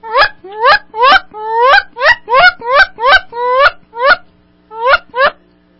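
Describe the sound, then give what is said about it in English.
A person imitates a Canada goose, also known as a honker, using only their mouth, giving about a dozen loud, nasal, rising honks in a quick, steady series, with a short pause before the last few. “I'll do my Canadian goose, or it's also known as a honker.”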